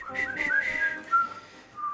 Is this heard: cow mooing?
no